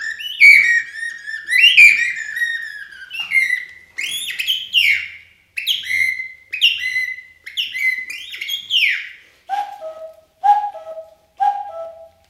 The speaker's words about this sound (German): Dann wird's langsam hell. Die ersten Vögel.